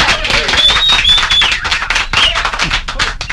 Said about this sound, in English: Ah, the sweet sound of applause.